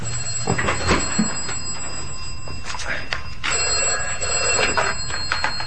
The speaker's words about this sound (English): Ooh, what's that? That's it's the vestry phone, strange.